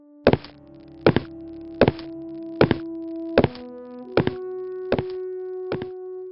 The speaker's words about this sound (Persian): چند ساعت بعد صدای پای رو در سالن شنیدیم.